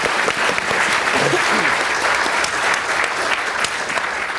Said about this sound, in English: Bad luck. We'll give her a big round of applause anyway.